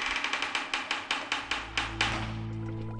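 Someone knocks on a door in a quick, steady series of about a dozen sharp raps. After the knocking stops, a low steady hum carries on.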